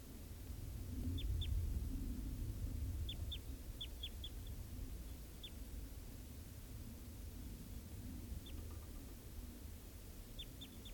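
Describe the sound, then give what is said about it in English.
A wild bird in a tree gives brief, high-pitched chirps, often in quick pairs or short clusters, spaced irregularly over a steady hiss and low rumble. The calls are faint, with no talking. “Well, that just collected that bird, and he'll be number 631.”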